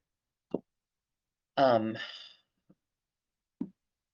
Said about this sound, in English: Excuse me. Oh, excuse me. Oh, I don't know where these burps are coming from. They're so painful.